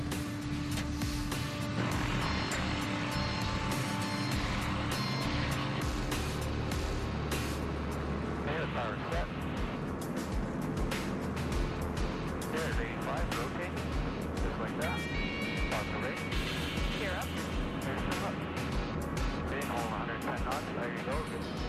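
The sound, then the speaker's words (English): A heavy, steady roar of the four engines of a large airplane in flight fills the whole recording, a loud droning rumble with indistinct voices buried underneath. “She has to conquer her nerves and take control of a four-engine behemoth.”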